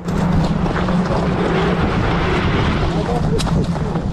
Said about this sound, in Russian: Истребитель заходит. Истребитель заходит? Горячий. Это российская? Наша? Да, российская.